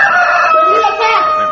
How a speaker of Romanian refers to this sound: Cocoșul iar de glas și se zbate.